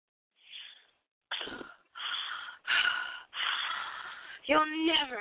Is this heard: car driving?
no